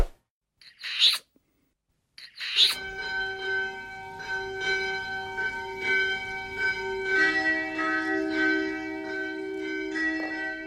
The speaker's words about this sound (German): Und am Ende läuten die Glocken.